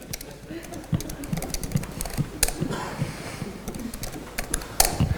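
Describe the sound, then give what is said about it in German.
Quick, irregular clacking of keys on a computer keyboard as someone types a chat message during a talk while people watch, fairly loud, with a few sharper strokes standing out over a steady low hum. “Also er schreibt, das Tippen ist besonders einfach, wenn viele Leute dabei zugucken.”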